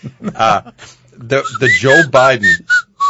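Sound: human whistling a tune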